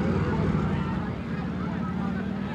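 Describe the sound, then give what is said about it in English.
Four police on motor scooters drone through street traffic during a demonstration, a steady buzz of small engines that holds at a constant loudness throughout without pause. “Here come the police. 1, 2, 3, 4 police on motor scooters.”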